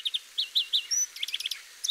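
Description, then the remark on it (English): A greenfinch sings a run of bright, high chirping notes, several repeated twitters with a brief whistled note in the middle, followed by a rapid jumble of trills. No voices. “The second of our finches is the greenfinch.”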